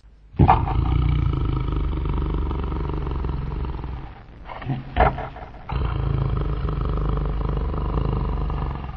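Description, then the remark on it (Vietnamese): Loud, deep snoring from a wolf sleeping soundly in a grassy meadow: two long, rumbling, growl-like breaths, each several seconds, separated by a brief pause with a few snorts. Heavy, with no talking. “Khi tới cánh đồng cỏ, dê mẹ trông thấy sói đang ngủ say, ngáy ầm ĩ.”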